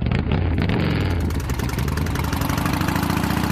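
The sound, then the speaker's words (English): A motorcycle engine runs loud, a steady low rumble with a throaty idle that holds constant throughout, no voices over it. “So when you're even just a little impaired, you do not get your motor running.”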